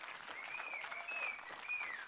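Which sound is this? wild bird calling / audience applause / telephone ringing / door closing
audience applause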